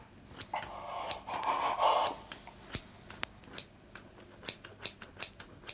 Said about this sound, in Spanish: Ay, ¿qué vas a hacer con esas tijeras? Cortar la tela que cubre la quemadura.